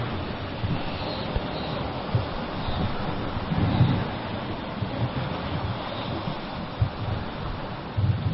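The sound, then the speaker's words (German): Steady roar of surf washing onto a shore, with broad continuous noise and occasional swells rising slightly louder, mixed with some wind buffeting; no voices present. “Ich hatte diese Meditation schon vor Wochen zu Hause aufgenommen, doch es hieß, heute, hier und jetzt, sprich sie neu ein, in der Energie, in der ich jetzt sein darf, wiederum am Wasser, am Meer, um Altes abzuwaschen.”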